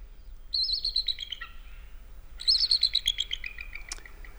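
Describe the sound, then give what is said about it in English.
A high, chittering eagle call tumbles down in pitch, then after a short pause a longer, sharper red-tailed hawk scream follows. Both are clear, with no talking. “That is an eagle, followed up by a red-tailed hawk.”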